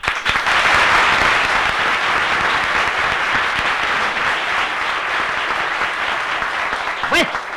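Sustained audience applause, a dense steady wash of many hands clapping at even loudness for several seconds, with a brief vocal sound rising near the end.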